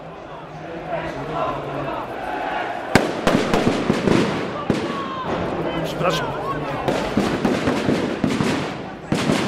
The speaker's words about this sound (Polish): Patrzę za dym, a chyba się szykuje. O, nawet słuchaj, że ślepakami strzelają, żeby to rozgonić mi staje ten tłum.